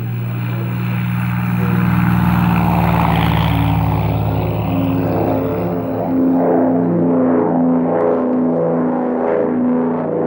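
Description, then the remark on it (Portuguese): A loud, steady propeller airplane engine drones continuously, its deep throbbing hum rising and pulsing slightly as it revs, with no voices over it; the plane is taking Dom Helder Câmara to Recife. “Olha lá, ele já entrou no avião.”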